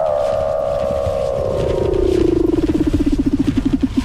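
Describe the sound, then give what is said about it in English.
A single long Weddell seal call, a clear whistle gliding steadily downward in pitch before breaking into a rapid pulsing trill. Loud, with no voices. “Weddell seals trill, chirp, whistle, and buzz.”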